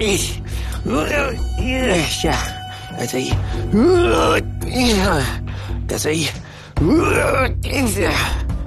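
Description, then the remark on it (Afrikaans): A voice imitates a man's repeated strained groans and effortful, breathy panting as he struggles to climb a tree with a heavy calabash tied around his neck, fairly loud, rising and falling in pitch over a steady low background drone. “Hy kreun en hyg terwyl hy hoor en hoor teen die boom uitsukkel.”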